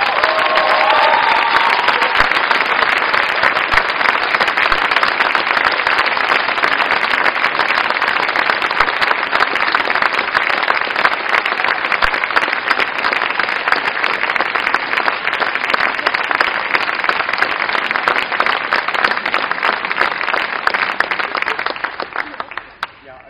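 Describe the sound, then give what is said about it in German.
A large audience applauds steadily for over twenty seconds for three departing members, a dense, even wash of many hands clapping that holds loud throughout before tapering off abruptly at the end. “Von daher, vielen Dank, dass ihr dabei wart und vielleicht einen Applaus für die dreimal, wenn ihr es aufsteht.”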